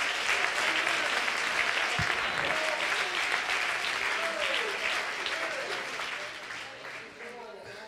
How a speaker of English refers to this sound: It's time for everybody. Oh, would you clap your hands if you believe it today?